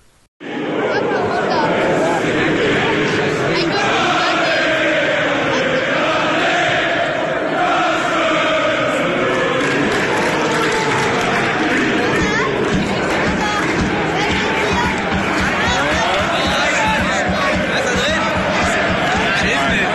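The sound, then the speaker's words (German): A football stadium crowd of 10,000 spectators at the Preußenstadion in Münster, during a match against Schalke 04's second team, roars steadily with dense, continuous babble, shouts and cheering blending into a loud, sustained wall of noise that runs unbroken throughout. “Ein kleiner Eindruck aus dem Preußenstadion.”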